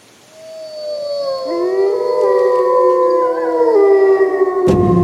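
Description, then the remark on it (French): Several wolves howl together in a sustained, overlapping chorus, long wavering tones rising and sliding against each other, loud, with no talking, ending in a brief abrupt noise. “qui vit en parfaite communion avec la nature et ses dangers comme le loup.”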